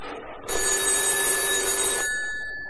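A telephone rings once in a loud, sustained metallic burst lasting about a second and a half, then cuts off, leaving a faint fading tone. No voices are heard.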